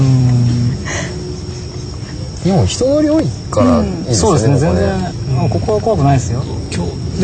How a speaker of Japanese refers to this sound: あとねあのすごいラジオに流れてる音が多分皆さんも気づいてると思うんですけど、虫の音なんですよ。秋の虫です。 セミじゃなくて。